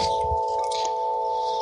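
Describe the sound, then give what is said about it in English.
Chimes ring with steady, sustained tones that hold at an even loudness, layered over a soft airy hiss, with no one talking. “And you can turn those chimes on anytime you like.”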